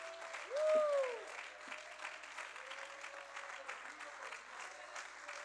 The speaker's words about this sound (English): Somebody ought to clap their hands. You ought to worship God.